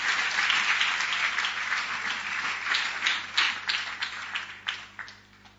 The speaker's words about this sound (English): Clap for Jesus.